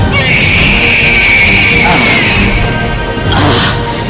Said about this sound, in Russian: И вот он, ваш первый крик, ваш первый шоу-тайм.